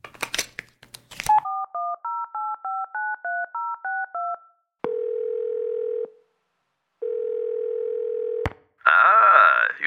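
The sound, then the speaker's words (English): A handset clicks up, then a quick run of about a dozen beeping keypad tones dials a number, followed by two long steady ringing tones and a crackly burst at the end. “Wait, there's one more call I can make.”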